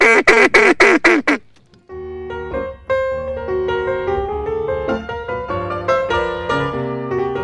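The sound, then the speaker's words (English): A quick run of five or six loud, nasal quacks blown on a duck call as people practice their calls at night, rhythmic, then cut off as steady instrumental music takes over. “The swamp witches stayed up, drinking wine, laughing, and, of course, practicing their duck calls.”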